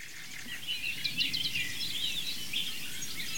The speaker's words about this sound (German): Entweder ist der Gesang melodisch, die super Amsel, die wir im Hintergrund auch hören.